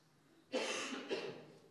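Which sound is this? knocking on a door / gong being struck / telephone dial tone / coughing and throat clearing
coughing and throat clearing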